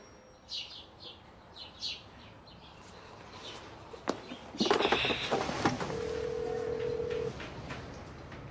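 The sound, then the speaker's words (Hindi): A phone call to Baba Jaan rings out unanswered, one steady electronic ring tone lasting over a second, heard after some scattered bird chirps and clicks over a faint noisy background. “Bell बज रही है, बात करो जल्दी, कोई उठा नहीं रहा।”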